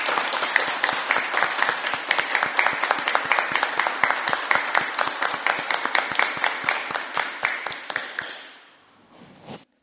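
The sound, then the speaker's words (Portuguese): At a city council session, councillors and others present stand and clap steadily in dense, sustained applause for about eight seconds before it thins out and fades to a few scattered claps at the end. “Queria convidar todos os vereadores e as pessoas aqui presentes a ficarem de pé e dar uma salva de palmas”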